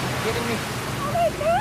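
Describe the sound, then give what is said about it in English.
A car flies off a ramp at the end of a quay, overshoots a yacht and plunges into the water, producing a steady, churning rush of splashing noise for over a second, with brief rising voice-like cries toward the end. “Overshoot it and hit the water.”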